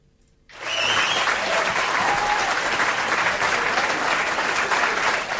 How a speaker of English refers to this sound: I want some applause there